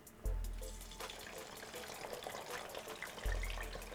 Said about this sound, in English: I got my frying station set up. I have my wings